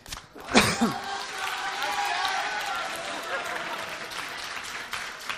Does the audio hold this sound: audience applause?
yes